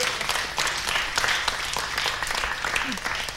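Audience applause for the director of the group fills the whole stretch, a dense, steady wash of many hands clapping at even loudness, with a faint murmur of voices mixed underneath.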